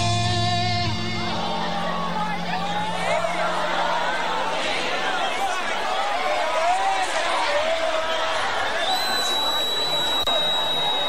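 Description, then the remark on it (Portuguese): A large concert crowd in Campo Grande sings along together, a loud blended mass of voices with wavering melodic lines and shouts, carrying on steadily without a lead singer. “Quero ouvir Campo Grande cantando com a gente. Só vocês agora.”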